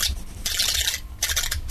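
A strange space-bug creature sound effect: harsh, raspy hissing bursts like rapid scraping, three pulses with short gaps over a low rumble, with no voices.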